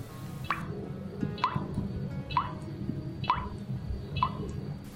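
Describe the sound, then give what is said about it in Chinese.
Water drips from a disused faucet that has been turned on, seeping out drop by drop as a kneeling child catches them in his hands, five bright plinking drops about a second apart, each with a quick falling pitch, over a low continuous rumble. “汤姆跑到一个停掉不用的水龙头前，打开水龙头，跪在地上，用小手接着渗出来的一滴一滴小水滴。”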